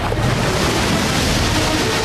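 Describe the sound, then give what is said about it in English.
Loud, turbulent water roars continuously as waves crash and churn in a tidal overfall, a dense wash of surf with no voices. “Another tidal overfall, this time even more ferocious than before.”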